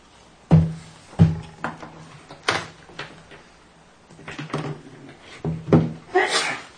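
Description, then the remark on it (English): A person sneezes sharply near the end of a board meeting recess, following several scattered thuds and clunks with no talking. “Bless you.”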